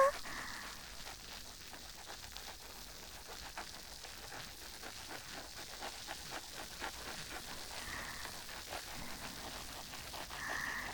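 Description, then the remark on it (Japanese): Soft, steady fizzing of plentiful added shampoo foam wrapping the scalp, with a dense patter of tiny crackles and pops, continuous and quiet throughout, with no voices. “シュワパチパチの泡、この追加したたっぷりの泡で頭皮を包み込むように。”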